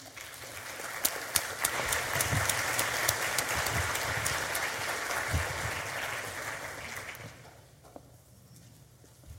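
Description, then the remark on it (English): A church audience applauds steadily, a dense wash of many hands clapping at moderate volume for several seconds before tapering off near the end. “So would you give a warm applause”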